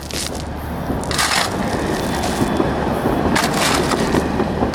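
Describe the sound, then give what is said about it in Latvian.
During street repair works on Krišjāņa Barona Street, workers dig up historic Swedish cobblestone paving at the end where it crosses Cēsu and Pērnavas streets: a steady, dense grinding and scraping of stone, with a few louder clattering bursts breaking through. No one speaks. “Rišjāņa Barona ielā jau sākti remontdarbi, un arī šodien strādnieki ielas tālākajā galā, kas krustojas ar Cēsu un Pērnavas ielu, rokārā vēsturisko zviedru bruģi.”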